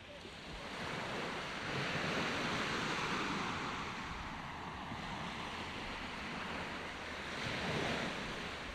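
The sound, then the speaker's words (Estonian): Steady wash of small waves slapping and splashing against the side of a boat on a calm lake under a blue sky, with a breezy rush of wind over the water and no voices, the surges rising and easing in gentle swells. “Taevas oli sinine, järv samamoodi, väikesed lained laksusid vallatult vastu paadi külge, mut kui laksusid ja laksusid, taas oli käes imeline päev.”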